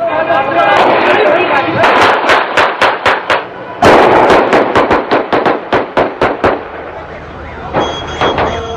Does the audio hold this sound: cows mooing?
no